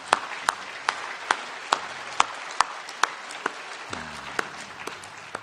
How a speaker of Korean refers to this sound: 우리 주님 부활하셨습니다. 네. 박수 한번 하겠습니다.